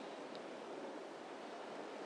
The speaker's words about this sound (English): Keep the recording rolling for a bit, you'll get an idea of what it's like waiting here on this somewhat deserted platform. A few people, but somewhat deserted, waiting for the what's probably the final train of the night to Richmond.